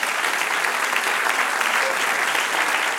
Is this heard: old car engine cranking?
no